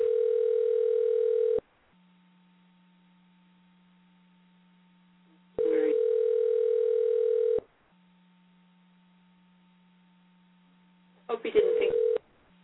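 An outgoing call's ringback tone to a cell phone sounds twice, each steady two-second ring separated by a low hum, then a third ring is cut short by a click as the line connects.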